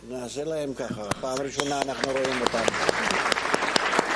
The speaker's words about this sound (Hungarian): Én először látjuk őket, meg is tapsolják őket. Fantasztikus, nem? Hondurasziak.